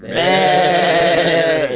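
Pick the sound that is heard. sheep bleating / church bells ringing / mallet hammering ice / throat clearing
sheep bleating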